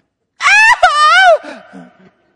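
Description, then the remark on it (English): A voice imitates a hunting partner's shrill, high-pitched scream like a little girl's, loud, wavering for about a second before trailing off into a few softer, lower breathy sounds. “And so we hear a scream like a little girl coming from our hunting partner.”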